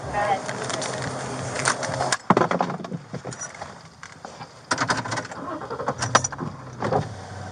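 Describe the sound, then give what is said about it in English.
Cabin noise inside a moving police car as an officer drives a detained man to jail: a steady low road rumble with scattered rattles, knocks and a sharp thump, plus faint muffled voices in the background. “Okay, so we're in the car now.”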